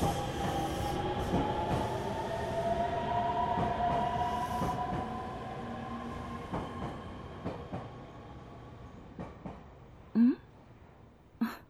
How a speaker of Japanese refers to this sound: この時間の電車は混み込みやな。ぎゅうぎゅうのすし詰めでかなわんわ。